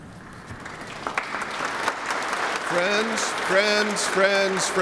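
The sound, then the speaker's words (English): An audience bursts into steady, crackling applause after a sermon, swelling and holding, while a man's voice starts speaking over the clapping in the latter half. “Friends, we do not applaud for sermons.”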